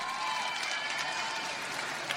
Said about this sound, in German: Vielen Dank ans Team vom CSD München. Da will ich einen genauso lauten Applaus hören, genau.